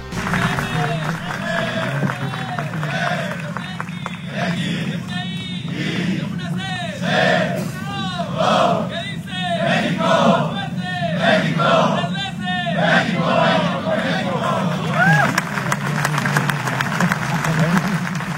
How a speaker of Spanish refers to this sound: Por su parte, Jesús Gallardo, el lateral izquierdo, improvisó una porra en la que participaron todos los jugadores de la selección al grito de México, México. Aquí lo escuchamos.